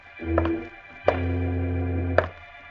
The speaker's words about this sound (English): Oh, yes, I'd know his limp anywhere. Oh, jeepers. He's coming here, Jim. He's come here for me. Frozen with fear, the little midget and Jimmy Olsen listen as the heavy thumping steps of the man Freddy says is the dreaded boot approach their door.